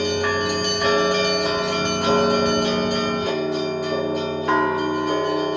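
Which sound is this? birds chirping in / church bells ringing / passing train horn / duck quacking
church bells ringing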